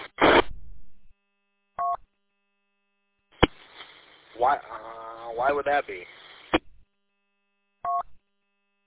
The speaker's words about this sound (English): Like when I unkey, it makes like a dial tone like sound, and then it has the courtesy tone, which is interesting. It's like it's getting two repeater tones.